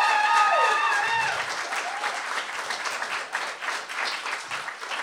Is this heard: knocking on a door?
no